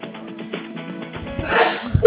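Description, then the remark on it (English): A single sneeze bursts out over a muffled, phone-quality line, preceded by faint background murmur and followed by a short beep. “Bless you.”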